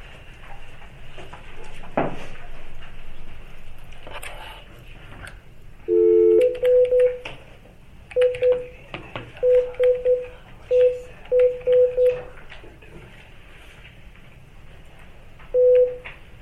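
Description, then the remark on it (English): A phone keypad beeps out a number: a longer tone, then a series of short, evenly spaced dialing beeps in quick clusters, followed by one final beep, over a faint background hum. “We're going to make a phone call really quick.”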